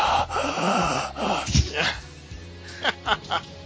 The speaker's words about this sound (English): you're breathing into the mic again. Sorry.